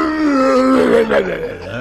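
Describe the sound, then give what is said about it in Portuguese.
A voice imitates a loud motorcycle engine with a continuous buzzing, growling drone. Its pitch holds steady, then rises and dips as if revving, lasting about two seconds with no spoken words. “Como é o negócio do barulho da moto?”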